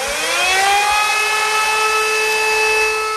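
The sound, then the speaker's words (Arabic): Air raid warning sirens wail steadily in Stepanakert, capital of Nagorno-Karabakh, warning of shells falling on the city during the conflict between Azerbaijan and Armenia; a loud sustained tone that rises at the start and then holds, with no voices present. “هذه أصوات صفارات الإنذار التي تعلو مجددا هنا في ستيبانكاك، صفارات تنبئ بسقوط قذائف على عاصمة ناغورني كاراباخ.”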